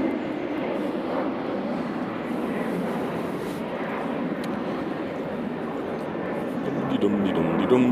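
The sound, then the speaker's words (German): A steady, loud roar of an airplane passing overhead fills the whole recording, swelling slightly toward the end, with indistinct voices mixed into the noise. “Ich finde die Flugzeuge ja ganz toll, aber in der Menge nerven sie.”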